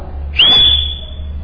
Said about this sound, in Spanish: Y le chiflaba.